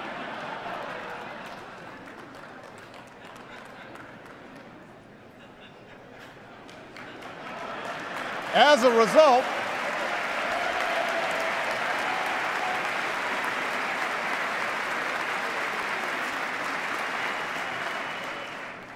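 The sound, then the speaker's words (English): Applause from a large audience at a speech, following a line about cutting taxes for 8 million Americans paying for college, builds after a few quiet seconds, peaks in a brief loud burst, then settles into steady, sustained clapping that carries on to the end. “I thought I'd get some applause on that one.”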